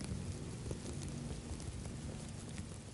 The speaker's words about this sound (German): Ihre Raupen würden sie mit schönen Fressgeräuschen entschädigen.